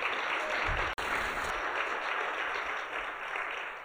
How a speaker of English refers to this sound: I want to shout him out. We can give him a big round of applause.